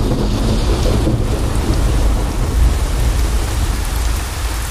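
A steady, heavy rain shower pours down while deep thunder rumbles continuously underneath, loud, with no voices present.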